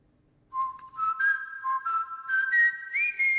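A melodic whistled intro to a pop song, a clear high tone gliding between sustained notes in a slow, rising line, with light accompaniment underneath and no voices.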